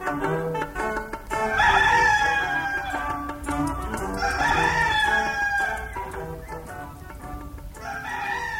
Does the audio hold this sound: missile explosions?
no